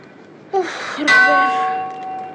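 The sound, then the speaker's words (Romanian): A large ship's fog bell on the mast clangs twice in quick succession in fog, the second strike louder and leaving a bright, ringing tone that slowly fades, with no voices. “De ce bate într-una clopotul acela, Robert? Din cauza ceții, ca nu cumva să ne lovim de altă corabie.”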